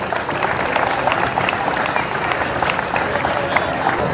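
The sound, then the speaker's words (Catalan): A large audience at a 2025 Roquetes festival event applauds steadily as the mayor of Roquetes, Ivan García Martí, is invited to speak, a dense, continuous wash of many hands clapping at once, loud, holding an even level throughout with no voices standing out. “demanem que ens acompanyi il·lustríssim alcalde de Roquetes, el senyor Ivan García Martí, que ens dirà unes paraules, un fan aplaudiment.”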